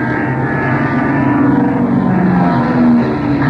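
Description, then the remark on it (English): Airplane engines roar loudly and continuously overhead, a dense droning rumble whose pitch shifts slightly as it swells and eases, suggesting planes diving and pulling up. No voices are heard. “Not if them planes dive deep enough, we ain't.”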